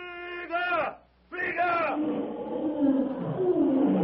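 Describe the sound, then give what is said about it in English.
A human voice imitates a bull ape's challenging cry, as Tarzan leaps forward at a crouching lion, with two loud, warbling yells, then a rough, rumbling roar and commotion take over to the end. “As the crouching lion hurls himself toward the half-conscious Irishman, Tarzan leaps forward with a challenging cry of the bull ape.”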